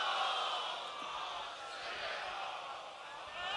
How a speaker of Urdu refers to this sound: صلوات پڑھیں ذرا محمد والے. خاندان زہرا پہ باواز بلندر صلوات.